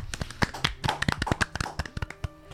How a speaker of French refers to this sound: C'est donc la fin de ce jeu, on remercie nos deux participants et on peut applaudir franchement.